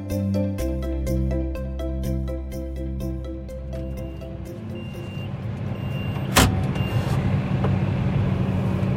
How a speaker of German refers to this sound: Mein Arbeitstag beginnt heute Morgen auf einem Trecker.